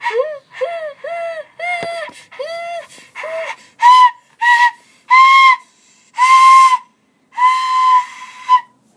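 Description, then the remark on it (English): A child plays a bamboo flute: about a dozen breathy, airy notes, first short quick toots with slightly sliding pitch, then longer, louder held tones with heavy breath noise. No talking. “What are you playing, a flute? That's a bamboo flute.”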